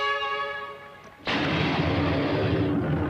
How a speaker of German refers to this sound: Der Kampfleiter testet seine computergesteuerte Anlage. Der traditionelle Abschuss des Testballs ist das Signal für den bevorstehenden Spielbeginn.